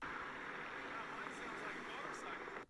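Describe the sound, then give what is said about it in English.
A Segway rolls along pavement, giving a steady, loud whirring hum of motor and tires that holds level for a few seconds, with a couple of faint high hisses, before cutting off abruptly. “It was a Segway though.”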